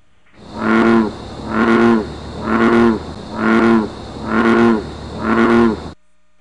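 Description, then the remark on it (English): An American bullfrog calls six times in a steady rhythm, each croak a deep, resonant, droning note lasting under a second, loud and clear with no voices over it. “Right, that's the American bullfrog.”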